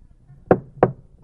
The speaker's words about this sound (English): Did I knock on a podium, or am I a podium knocker?